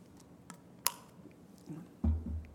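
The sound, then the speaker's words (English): Someone takes a quick swig of lemon juice and water: a couple of small wet clicks from the lips, then a low, muffled gulp near the end, with no talking. “excuse me, might need a little swig.”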